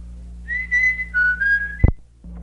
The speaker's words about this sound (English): So I'll sign off now by whistling a little song.